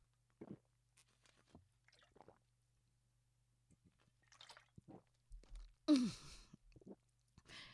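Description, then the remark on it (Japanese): Wet, squishy mouth noises and small drips build up, then effervescent powder held in the mouth, foaming with saliva while a cider bottle is held, bursts out through the nose in one loud, sputtering rush, with no talking. “発泡剤を口に含んでサイダーのボトルを持っている間に唾で発泡して鼻から抜けた。”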